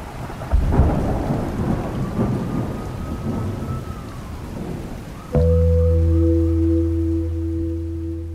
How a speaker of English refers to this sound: And just before 7 p.m., a rainstorm hit the city, causing the crowds to finally dissipate.